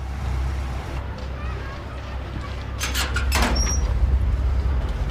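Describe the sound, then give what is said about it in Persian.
A car door opens and thuds shut with a couple of sharp clunks as someone climbs in, over a steady low rumble of vehicle or street noise. “سوار ماشین میشه.”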